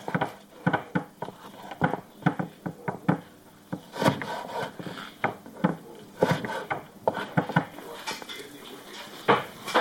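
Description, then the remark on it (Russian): Food is dropped and scraped into a cooking pot so it can cook: an irregular series of clinks, knocks and rubbing clatters with short pauses between, and no one speaking. “Положи еду в кастрюлю, пусть готовится.”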